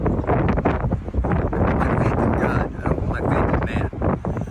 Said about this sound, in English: explain to them why you're deciding to stick out a Category 5, one of the worst hurricanes in Tampa history, out on a 20-foot sailboat in Tampa Harbor.